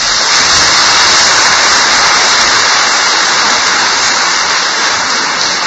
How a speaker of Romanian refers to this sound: Pentru asta le mai încurajăm, îi mai încurajăm încă o dată cu aplauze.